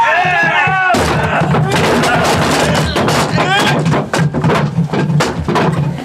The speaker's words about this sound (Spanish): Los policías cargan sobre la gran puerta de acceso a la casa. ¡Vamos! ¡Derríbela de una vez! ¡Vamos! ¡Deprisa!